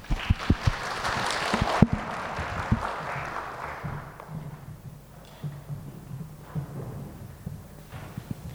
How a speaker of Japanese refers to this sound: 楽しみに、また歓迎の意味を込めて拍手を持ってお迎えいたしましょう。